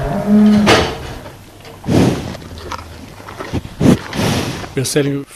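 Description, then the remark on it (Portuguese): Cows on a 130-hectare organic farm in Birkenhout, where they roam loose most of the time: a low, drawn-out moo at the start, followed by scattered rustling and thumping noises, then a shorter lowing call near the end, fairly loud. “Hoje, mantém uma propriedade de 130 hectares em Birkenhout, onde cultivam frutas e legumes orgânicos e proporcionam condições ideais para o desenvolvimento das suas vacas, que vivem soltas a maior parte do tempo.”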